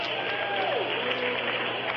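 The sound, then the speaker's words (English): Steady, dense clapping from an audience at a convention fills the whole two seconds at an even loudness, with a murmur of crowd voices mixed in underneath. “Can we hear it for the ham hock?”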